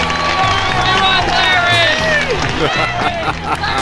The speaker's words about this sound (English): Is there no sweeter sound than that of your own name buried in cheers and applause? I think not.